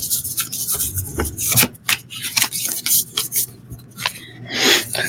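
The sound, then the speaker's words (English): Papery riffling and rubbing of Arcanus Animal Tarot cards being shuffled, a run of quick irregular rasps and soft slaps with bright crisp bursts, steady and moderately loud, with no voices. “And doing a little bit of shuffling here.”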